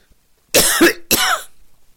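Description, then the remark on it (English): Two harsh, raspy coughs from a dog in an advertisement for Cannoli's Canine Cough Drops, the first longer and rougher, the second following after a brief pause. No talking. “Your dog is coughing. He's coughing for a cannoli.”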